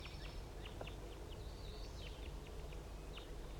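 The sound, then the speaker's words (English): Crossbills chittering in the trees around a net site: a scattered stream of short, high chip notes, several at a time, faint over a steady low background hiss, with no voices. “The crossbills are in the trees around the net site and they're just chittering, and I believe one is going down right now.”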